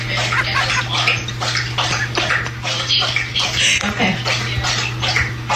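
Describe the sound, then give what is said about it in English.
A dog laps water from its bowl beside a work desk during a Zoom call, in quick, steady wet slurps that continue throughout, with a low steady hum underneath. “You're hearing my dog. Her dog bowl is right next.”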